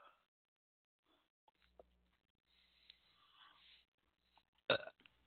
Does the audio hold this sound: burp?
yes